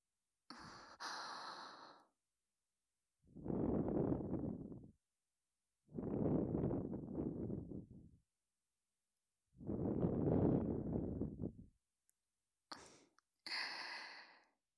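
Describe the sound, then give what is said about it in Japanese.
Soft breaths blown close into the ear at the end of an ear cleaning: three long, airy exhales in a slow, even rhythm, bracketed by faint rustling at the start and end, with no talking. “最後に耳に吐息もかけていきますね。”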